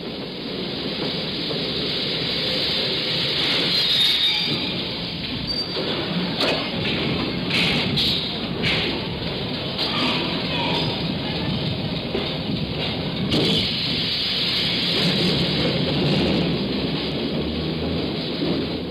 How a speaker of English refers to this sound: The subway rises from the tunnel and stops at 135th Street.